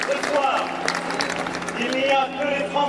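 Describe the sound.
A large crowd in the courtyard of the Louvre cheers and applauds as Emmanuel Macron addresses it after his 2017 electoral victory, a steady, dense roar of clapping with shouting voices rising above it in bursts throughout, loud and unbroken for the whole few seconds.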